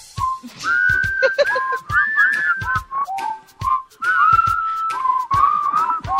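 A person whistles a bright, wandering melody, pitch sliding between notes, along to pod-safe music with a soft backing of plucked or percussive sounds and steady low thumps.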